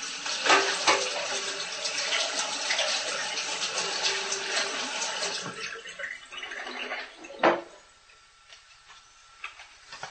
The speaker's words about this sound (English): I actually just soaked the almonds I need for that crust in some water for 6 hours. I will just drain the water. Don't drink it. Don't use it for anything else. And then I give it a wash.